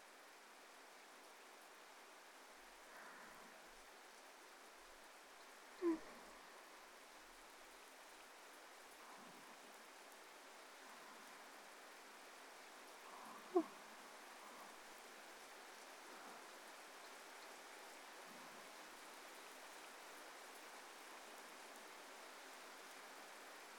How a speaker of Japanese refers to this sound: 雨、強くなってきましたね。天気予報だと通り雨みたいだから、ちょっと待ちましょうか。